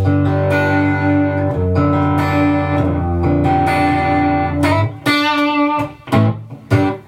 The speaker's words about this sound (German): Genau, es ist jetzt ein 5150-Profil hier gerade, was wir hören. Wo wir mehr Gain natürlich noch brauchen. Natürlich mit ein bisschen Hall drauf.